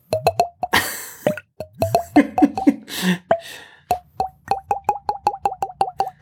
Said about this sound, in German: Und jetzt wohnt sie in diesem Haus und gießt sich gerne die ganze Weinflasche immer in ein Glas. Das ist ein Glas. Das ist so fürchterlich.